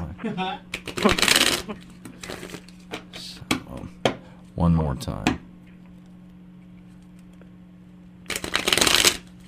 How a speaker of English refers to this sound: Now that I've said all that, let me shuffle this deck for you. I like to shuffle three things. There we go. There we go. That sounds so odd on the air right here.